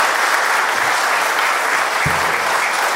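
round of applause

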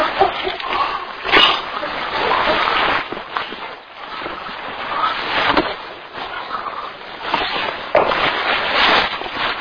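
dog splashing in water

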